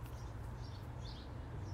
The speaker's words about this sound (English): Can you hear the birds?